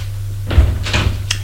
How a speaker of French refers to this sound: La porte s'ouvre.